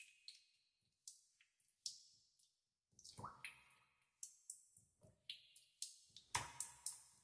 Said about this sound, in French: Vous pouvez percevoir tout votre corps dans sa globalité, massé par cette douce pluie qui cesse tranquillement. Vous pouvez à présent entendre le clapotis des gouttes qui tombent dans les flaques de vos pensées.